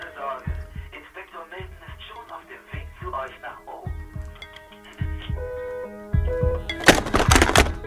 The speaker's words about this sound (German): knallte den Telefonhörer auf.